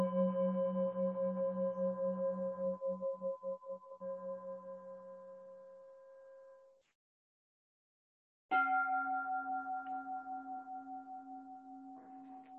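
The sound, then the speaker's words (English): A ritual bell struck with a mallet rings out, a steady shimmering tone that slowly fades, then a second bell with a brighter, higher pitch is struck and rings on, pulsing gently as it decays, as the two bells are compared before a ritual. “So before we do, I want to ask you which of these bells you like better. There's this one.”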